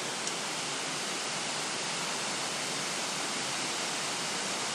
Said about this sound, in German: Und ich lasse euch erstmal noch mal ein paar Sekunden zuhören. Hier das beruhigende Plätschern des Wassers, wie es da aus, ja, 30, 35 Meter hinunter stürzt.